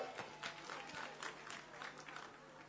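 Audience applause for Knesset member Rabbi Michael Malchieli, a steady wash of many hands clapping at moderate volume, dense and continuous with slight swells throughout, and no talking over it.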